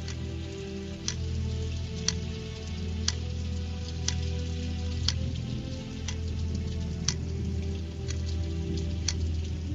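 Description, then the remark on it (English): A steady wash of rainstorm noise with a low rumble underneath, while a clock ticks crisply about once per second over the top, as part of a song. No one speaks. “With the clock, with the rainstorm, and with the thunderclap.”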